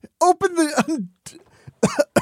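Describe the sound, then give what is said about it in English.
A voice imitates a fit of coughing: several rough, throaty bursts with strained vocal tones, a quieter stretch, then two more loud coughs. “He could even hear Horton coughing.”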